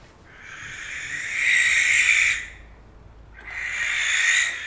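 Two long, harsh, hissing screeches from a barn owl, each lasting about a second or more with a short pause between, loud with no other sounds.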